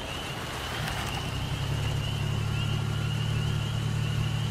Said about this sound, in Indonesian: suara mobil. Iya. Aku memberanikan diri melihat keluar. Dan kini aku lihat sebuah cahaya dari sebuah mobil yang berhenti di seberang hutan.